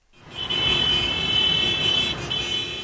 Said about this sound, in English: Benghazi drivers honked their horns in celebration moments after learning that rebel fighters had breached Gaddafi's compound in Tripoli.